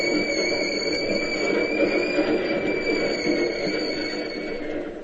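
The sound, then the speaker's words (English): An electric Key System commuter train comes down the ramp from the Bay Bridge into the terminal, rolling past steadily, a broad rumbling roar with high, sustained metallic whines and squeals from the wheels, loud and continuous throughout with no voices. “Inspector, do you see what's coming down the ramp from the Bay Bridge right now? Sure, one of the key system trains.”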